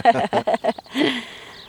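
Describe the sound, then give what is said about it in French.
Piglets waiting to be fed whey squeal in a quick run of four or five sharp, high cries, followed by a longer, shriller squeal that fades out. “Donc là, on entend les petits porcelets qui attendent le petit lait, justement.”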